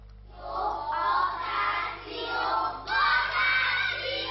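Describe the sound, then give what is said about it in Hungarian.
A group of young schoolchildren shout the customary 'vakáció' (holiday) together in loud, high-pitched unison at the end of the school year, their voices rising in two sustained bursts with a brief dip between, like a chanted cheer. “A kicsik még kiabálták, a nyolcadikosok pedig már a táblára írták fel a szokásos vakációt.”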